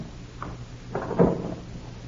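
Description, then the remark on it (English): An old woman unlocks three different locks and opens her door: a small click, then a heavier rattling clunk as it swings open, with no talking. “she's unlocked three different locks to open that door.”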